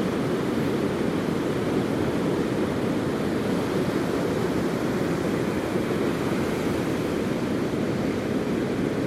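A steady, unbroken roar of surf washing onto a beach with plenty of people on it, with Worm's Head in view, sun shining off the waves and slight sea mist, dense and fairly loud throughout, with no distinct voices or individual wave crashes standing out.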